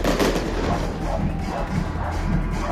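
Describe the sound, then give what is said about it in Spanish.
Fireworks going off in a dense, continuous barrage during an afternoon fireworks display, loud crackling and booming bursts overlapping one another with no pause and no voices. “Mientras escuchamos los fuegos artificiales, porque hay que dejarlo ahí, William, para que al menos las autoridades se den cuenta que hasta ahora o durante la jornada de la tarde este espectáculo se dio.”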